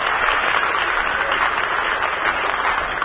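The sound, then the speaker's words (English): A studio audience at the Hollywood home base claps and cheers loudly and steadily, a cheer sent to the new Ashton Theater opening in Ashton, Nebraska; a dense wash of applause that holds at an even level for about three seconds with no one speaking over it. “Let's send them a cheer from the Hollywood home base.”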